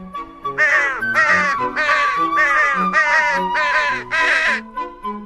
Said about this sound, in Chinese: 等他再一次睁开眼睛的时候，自己已经高高的在空中，还有一大群的乌鸦围着它飞行呢。